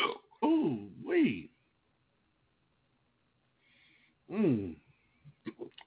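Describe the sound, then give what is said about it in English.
Loud hiccups: three quick voiced gulps in a row, a pause of a few seconds, then another sharp hiccup followed by a couple of smaller catches. “Oh, I got the hiccups bad, my brothers and sisters.”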